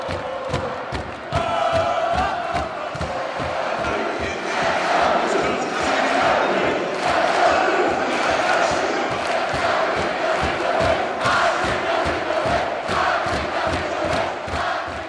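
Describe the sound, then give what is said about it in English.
A packed arena of a few thousand Duke University students, the Cameron Crazies, in Cameron in Durham, roars and chants continuously while watching the Final Four from Indianapolis on a video scoreboard, a dense wall of loud cheering and yelling with rhythmic pulses like stomping or clapping running throughout. “An aging video scoreboard served as the portal to Indianapolis, and Duke University students brought their typical frenzied, ear-piercing, passionate approach to the bleachers and Cameron.”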